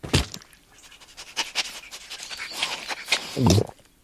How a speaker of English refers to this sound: Oh. He swallowed it whole. Wow. Really impressive dog.